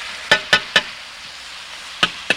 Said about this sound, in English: All right, fire's good and hot now. You hear that old fatback sizzle there in the frying pan. That means you got a good fire under it.